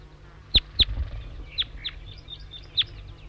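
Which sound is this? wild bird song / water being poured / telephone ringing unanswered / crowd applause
wild bird song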